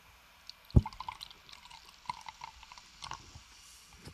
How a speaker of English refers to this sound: I poured this in a glass the other day expecting it to be blue. I'm going to do this. I know if you're listening, this is terrible, but if you're watching, just make sure you can hear the pour. Put the pour up next to the microphone.